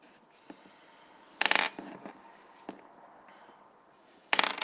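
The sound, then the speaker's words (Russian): Dice are rolled, clattering across a hard surface in two brief rattling bursts, fairly sharp, separated by a quiet stretch with a few faint clicks. “Ну, кидай кубики, я это уже пытаюсь выяснить.”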